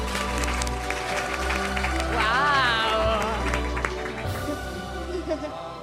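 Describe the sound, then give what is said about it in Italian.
An audience applauds steadily for several seconds to welcome a guest as he enters, a dense, loud wash of clapping over background music, while a voice briefly exclaims on top. “Un applauso, ragazzi!”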